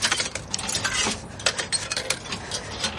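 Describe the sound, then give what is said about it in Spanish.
Coins being fed into a payphone in a telephone booth: a quick run of bright metallic clinks and rattles over a few seconds, with no voices. “Mete monedas.”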